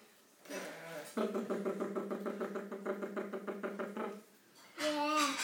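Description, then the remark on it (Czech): A child makes a rapid, rhythmic putt-putt engine noise with the voice for about three seconds, imitating a tractor, with brief voices just before and after. “A jak dělá ten traktor?”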